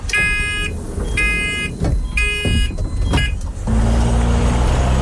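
A bus engine rumbles steadily while four loud electronic beeps sound in a regular rhythm, like a door warning. The engine drone then deepens and carries on alone, with no voices.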